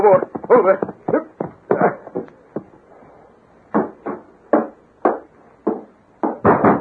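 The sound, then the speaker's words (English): Loud, repeated knocking on the wooden door of a sheriff's home at dawn, in uneven bursts of blows, with a voice briefly heard at the start and again at the end. “Sheriff, open the door. Who's there? Open up.”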